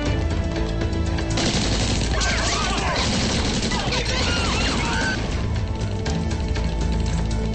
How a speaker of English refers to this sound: Someone shoots a sawed-off shotgun, causing an explosion.